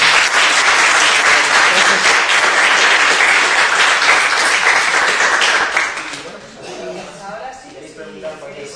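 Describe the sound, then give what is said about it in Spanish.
Sustained audience applause, a dense, loud wash of many hands clapping for about six seconds, then fading quickly as a voice begins speaking. “Bueno, pues un aplauso.”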